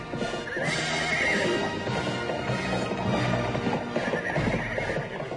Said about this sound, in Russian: пришпорив коня, быстро удалился по одной из боковых аллей.